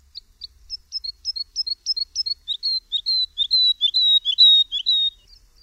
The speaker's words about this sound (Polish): Śpiew lerki nie jest zbyt podobny do śpiewu skowronka. Jest zdecydowanie spokojniejszy i dźwięczniejszy. Brzmi wręcz melancholijnie.